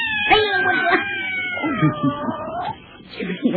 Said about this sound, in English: That cat scared me. I guess you scared him, too. Look at him run.